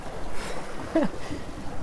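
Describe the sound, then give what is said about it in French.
Steady, breathy wind rushes over a sailboat at sea, continuous, with a brief rising-and-falling creak partway through. “Non, mais c'est vrai, il y a le pilote, il y a du vent.”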